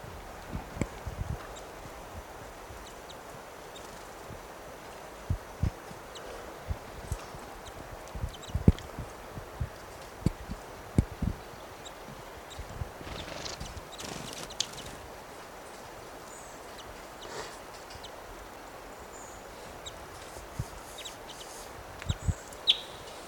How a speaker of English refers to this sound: These birds are fighting and interacting in this low tree.